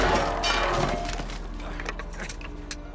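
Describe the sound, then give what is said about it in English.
A wooden structure perched above a board crashes down onto the dog Buster after a boot knocks the board over, a sustained, noisy clatter with splintering and knocking debris tumbling for a few seconds, loud, with no voices. “The board falls over, and a wood structure perched above it crashes down on Buster.”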